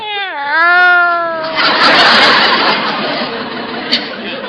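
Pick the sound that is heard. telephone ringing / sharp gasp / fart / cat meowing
cat meowing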